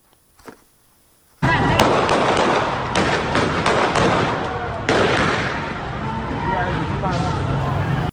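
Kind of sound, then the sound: impact, gunshots fired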